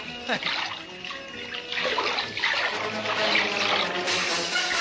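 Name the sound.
water splashing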